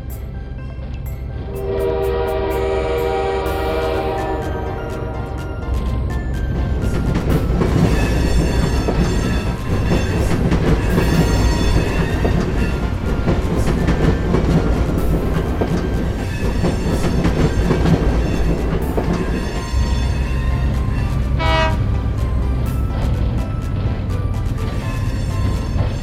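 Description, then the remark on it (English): A train rumbles steadily along the tracks at a train testing site for the whole stretch, loud, with a long blaring horn at the start and another short horn blast near the end. “Here we test different trains.”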